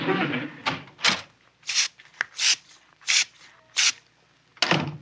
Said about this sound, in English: What was that nurse spraying? Sweet air to keep the room smelling nice? Oh, no, no, no. That's a special concoction they spray every half hour to keep the place smelling like a hospital.